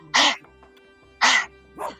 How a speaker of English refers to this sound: Woof. I think he likes it.